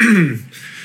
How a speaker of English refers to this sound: cough break.